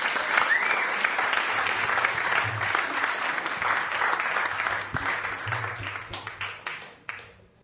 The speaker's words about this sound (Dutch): Uw grote applaus voor niemand minder dan Mr. Ronald Snijders.